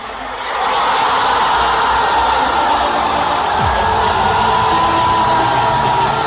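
A stadium crowd at a sports ground shouts and roars, swelling up within the first second into a loud, dense, unbroken wall of voices that holds steady to the end.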